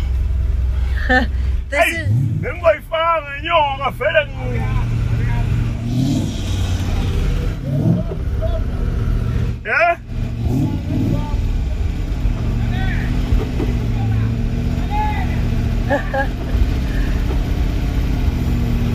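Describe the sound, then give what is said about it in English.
A powerful V8 car engine rumbles and revs loudly as a car spins at the Lido Country Lodge spin track, a steady deep drone with brief high squeals early on, while people talk over the noise. “And this is a V6 engine. V8. V8 engine.”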